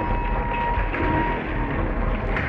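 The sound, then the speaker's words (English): A rover's motor strains steadily in reverse as it tries to back up from a cliff edge, a continuous mechanical grinding and rattling with a thin whine held over it, loud and unbroken for the whole stretch, with no voices. “Put the rover in reverse and back up slowly.”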